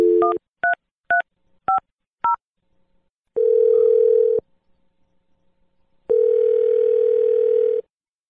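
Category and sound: signal or alarm, telephone number being dialed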